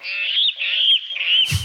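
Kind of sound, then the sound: bird, water rail call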